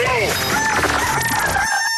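A rooster crows loudly, one sustained, strained cock-a-doodle-doo with rising and falling harmonic tones, ending in a trailing high note.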